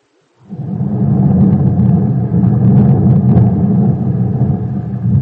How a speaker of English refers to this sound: There is thunder amidst the heat.